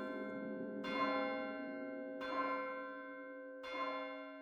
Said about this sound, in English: As her soul left her body, the church bell in the valley rang out 12 times.